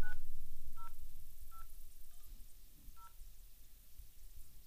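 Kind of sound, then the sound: signal or alarm, telephone number being dialed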